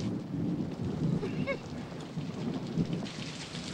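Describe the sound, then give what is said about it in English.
Heavy, torrential rain pours steadily against a window, a dense hiss of drops with a low, rumbling undertone like thunder. No voices are heard. “A solemn-faced Lisa stares out of a rain-lashed window.”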